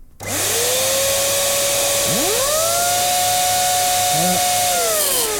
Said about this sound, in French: Ça, c'est le ventilo qui s'est mis en route. C'est marrant. Le gars, il s'éclate. Écoutez. Voilà, ça, c'est quand je fais tourner le ventilateur avec la... L'appareil.